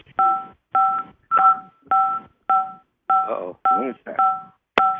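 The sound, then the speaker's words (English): A rapid series of about nine telephone keypad beeps, each a short steady dual tone, pressed one after another with brief gaps on a caller's phone during a conference call, with faint muffled voices underneath some of them. “Sitting on their phone. All callers are muted and they can unmute themselves.”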